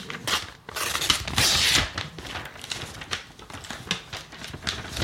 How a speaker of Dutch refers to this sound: Het gaat helemaal kapot. Maar hij kan het niet. Hoe zit het nou, mensen? Maak je die envelop verder kapot, dat mag wel.